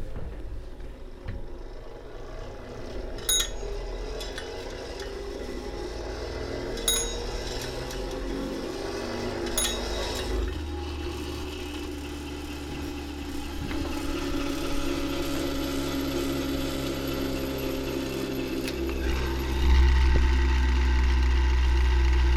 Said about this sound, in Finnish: Siinä niin kuin lingotaan se kerma erilleen siitä kurrista, eli siitä sitten on toisesta torvesta tippunut kurri ja toisesta kerma. Tästä voidaan vähän malliksi pyöräyttää tätä.